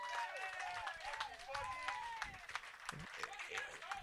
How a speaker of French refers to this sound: On peut applaudir